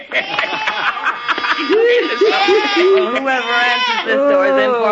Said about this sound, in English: Rudolph, he loves me. He's kissing me. Merry Christmas, Rudolph. You're the sweetest little goat in the whole wide world.